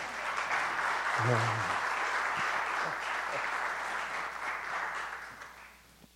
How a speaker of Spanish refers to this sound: Y démosle un aplauso para que se anime.